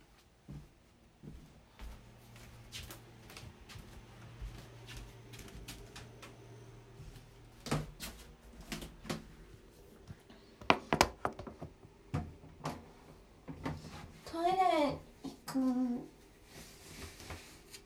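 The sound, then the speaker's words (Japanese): Quiet footsteps thud and click across a hallway floor as someone walks to the toilet, ending in a couple of drawn-out, squeaky creaks of floorboards giving underfoot, with no one talking. “前の廊下なんかちょっときしむんですよね。”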